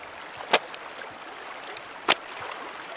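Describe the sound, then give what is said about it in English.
Steady rushing water of the Boac River on Marinduque island, Philippines, fills the background while a 73-year-old woman washing laundry slaps her wet yellow blouse hard against the gray shoreline stones twice, two sharp smacks about a second and a half apart. “dips her yellow blouse into the Boac River's rushing water and then slaps it up against the shoreline's gray stones.”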